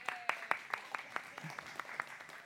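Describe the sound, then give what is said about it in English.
A steady run of hand claps from an audience at an even, fairly quick rhythm, about a dozen in under three seconds, sounding thin, like a small group applauding. “Round of applause. You guys are awesome.”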